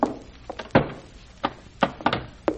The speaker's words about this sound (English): Shut the door, bolt it.